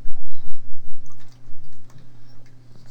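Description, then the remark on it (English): Chocolate milk being poured into a cup, a steady gurgling stream with small drips and splashes, lasting a few seconds with no one speaking. “You pour chocolate milk into a cup.”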